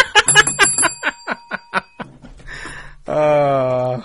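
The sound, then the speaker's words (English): A bright bell rings in a quick, rapid run of about a dozen dings, then gives way to a short burst of a loud, held voiced sound. “Chanting for the inappropriate bell.”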